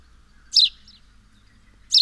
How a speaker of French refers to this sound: Et voici le chip, caractéristique du moineau domestique. Chip, chip.